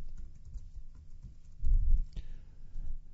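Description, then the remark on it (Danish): Typing on a computer keyboard while writing text on a wiki page: a steady stream of soft, irregular key clicks, growing briefly louder and busier midway before settling back to a lighter patter. “Se, der er også en kategori, der hedder fonter, og der plejer jeg bare gerne lige at skrive her.”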